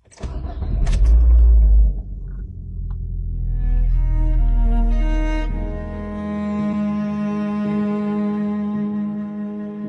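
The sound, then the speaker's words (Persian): A car engine is started by a driver after adjusting the seat and mirrors. It cranks and fires up with a loud low rumble, then settles into a steady, droning idle with a faint whine on top. No talking. “میریم برای استارت.”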